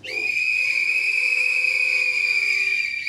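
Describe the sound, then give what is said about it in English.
Loud, sustained whistling from an audience answering whether they have ever used a sex toy, several high piercing tones overlapping and held steadily for a few seconds, with no talking underneath. “So please whistle if you have ever used a sex toy.”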